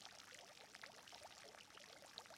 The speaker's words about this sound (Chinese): 这里是气泡池，具有缓解疲劳、增强精力的作用。